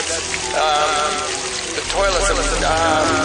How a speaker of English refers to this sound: You'll notice some water running in the hallway. Not to worry.